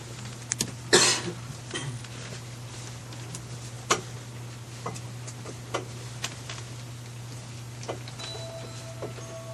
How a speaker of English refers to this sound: Tick-tock, tick-tock, tick-tock. The tricky clock tick-tocking, each painfully long minute unlocking.